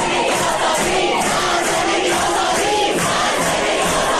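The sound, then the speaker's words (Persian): A dense crowd of student protesters chants and shouts together at Allameh Tabataba'i University on 3 Aban of the previous year, a loud, continuous wall of massed voices with rhythmic surges in the chanting and no single voice standing out. “اعتراضاتی شبیه به این فریادها که 3 آبان سال گذشته در دانشگاه علامه طباطبایی سر داده شد.”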